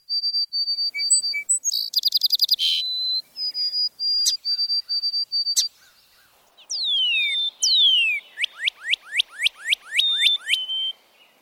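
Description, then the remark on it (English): A white-throated sparrow, an overwintering species here, sings its full song with little wind: a high, clear, loud whistled song repeating steady notes, followed by a quickening run of downward-slurred whistles. No one speaks. “The clear, whistled, and loud "Old Sam Peabody" of the white-throated sparrows, a handsome species that does not nest in our area but is quite common in the mountains of northern New England, is a favorite song for many birders.”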